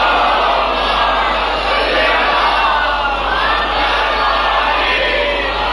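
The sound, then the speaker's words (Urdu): A large crowd loudly recites salawat in unison, a dense, sustained roar of many voices chanting together for several seconds without a break. “پورے شہر ملک کی سلامتی کے لیے ایک بار اور بلند آواز سے صلوات عنایت فرما دیجیے گا.”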